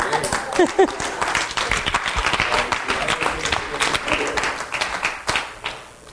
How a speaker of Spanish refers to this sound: Bueno, entonces nosotros, que podríamos decir que nosotros somos mejores, porque hemos creído sin ver, pues dese un aplauso usted mismo.